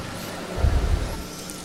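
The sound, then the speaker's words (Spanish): Steady, hissing rain falls during a celebration at the UNAD university in Colombia, with a brief burst of low rumbling thumps in the middle. No one speaks. “Dios está presente, porque la lluvia no es otra cosa.”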